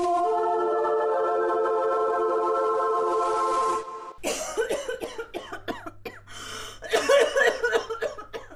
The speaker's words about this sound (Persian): بازم که سرفه میکنی، حالت خوب است امروز؟